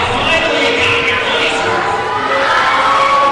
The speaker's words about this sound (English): Getting a nice reaction from the crowd, I must say. I don't think you like him very much, the crowd.